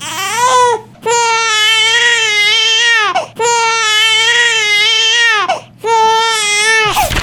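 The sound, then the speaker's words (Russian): A strong, healthy newborn baby wails loudly in three long, strained cries, each broken by a brief gasping pause for breath, with no talking, at a maternity hospital in Vorkuta, Russia. “Очаровательный малыш, крепкий и здоровый, которого мы вместе так ждали, увидел свет.”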